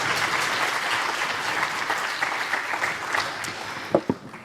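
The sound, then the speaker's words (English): Steady audience applause after a talk and audience questions, a dense wash of many hands clapping at an even, fairly loud level, with a couple of sharper individual claps near the end as it fades. “Please clap your hands.”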